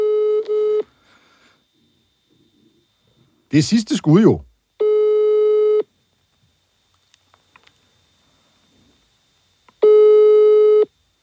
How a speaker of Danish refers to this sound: Peter Skorup har jeg jo prøvet at få fat på i går og også i dag, og det er ikke rigtig lykkedes. Lad os prøve at ringe til ham her.